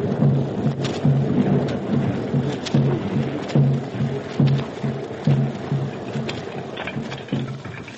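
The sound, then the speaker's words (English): A heavy rainstorm hisses steadily while deep thunder rumbles and rolls in repeated low pulses, loud throughout, with no voices. “call on Great Spirit to send rain god. Rain god. Rain god. He comes. He comes.”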